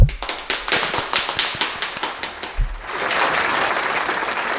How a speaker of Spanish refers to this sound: Y vamos, os tengo que felicitar, os merecéis un súper aplauso. Porque es verdad que es muy difícil soportar toda esta tensión y sin que nadie las chispas hayan saltado, o sea que un aplauso gordo, gordo, gordo, os merecéis.